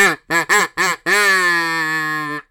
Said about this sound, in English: I get the old Riley Green duck call out